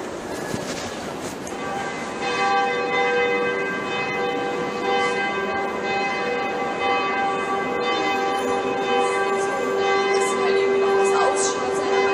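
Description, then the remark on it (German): Church bells ring inside St. Peter's Cathedral in Regensburg, their dense, overlapping tones swelling in after a couple of seconds and hanging in a long, steady reverberant wash. No one speaks. “Und zwar sind für sie die Geräusche des Regensburger St. Petersdoms am interessantesten.”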